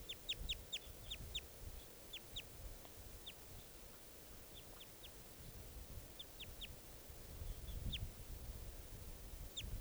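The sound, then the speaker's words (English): Sharp, high wild bird calls repeat in quick little clusters throughout, some clear, others fainter, over a steady low outdoor rumble with no talking. “Troops of 3 or 7 there, wild bird calls.”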